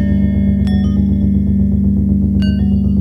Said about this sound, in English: And then there's also these low bells.